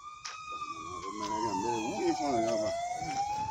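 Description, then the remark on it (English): An ambulance siren wails from a distance, its tone sliding slowly downward and then climbing again in one long, steady sweep against a low background rumble. “Ebola survivors are often traumatized by an ambulance siren whirling in the distance.”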